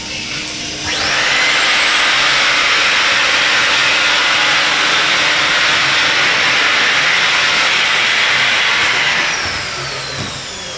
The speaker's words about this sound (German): Nach der Benutzung reinigt sich die City-Toilette Basic selbst. Zunächst setzt die Spülung ein. Danach wird die Sitzfläche selbst gesäubert. Ein staubsaugerähnliches Gerät saugt die letzten Tropfen von der Klobrille.